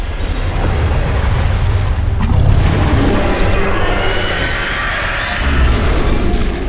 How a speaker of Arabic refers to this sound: فجأة شعر السندباد والمتسابقة بأن الأرض تهتز تحتهما بخطوات ثقيلة. اقترب صوت الخطوات بسرعة إلى أن ظهر من وراء هضبة الوحش الذي كان طريدهما.